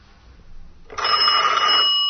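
A telephone rings once as a call comes into a radio studio, a bright, bell-like trill that starts abruptly about a second in and holds steady and loud until the end, after a short stretch of faint background noise.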